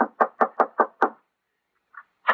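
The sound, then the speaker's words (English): Six quick, solid knocks on the wooden door of a house, in an even rhythm, fairly loud, followed by a short pause, a faint soft tap, and one more knock. “Yeah, knock on the door.”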